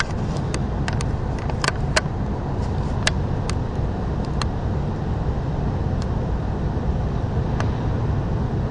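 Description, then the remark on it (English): A New York street soundscape recorded with a recorder suspended halfway out a window through a tiny gap: a steady, dense roar of traffic like constant white noise, with scattered sharp ticks and clicks over it and no voices. “Okay, it sounds like loads of white noise with a little bit of occasional siren, but anyway, I thought it was good.”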